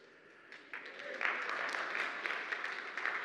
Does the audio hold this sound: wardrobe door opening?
no